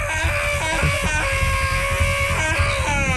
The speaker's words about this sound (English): What I wanted to do was my scream. Okay, your cabin fever scream. Well, then maybe stand away from the mic. Yeah, go ahead.